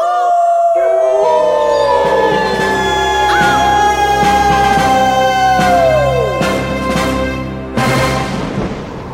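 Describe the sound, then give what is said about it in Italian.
A pack of hungry wolves circling a herd of grazing cows in China howls together in long, overlapping, wavering cries that slowly slide downward in pitch, loud, over a steady low rhythmic pulse. “Là c'era una mandria di mucche al pascolo, circondata da un branco di lupi affamati. I predatori giravano intorno alle povere mucche, ululando da far paura.”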